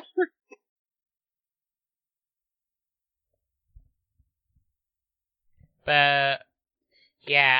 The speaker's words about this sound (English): You made me choke. I'm sorry, that was hilarious. Clearly, I'm not the only one having coughing fits. That's just because you made me swallow my spit while I laughed.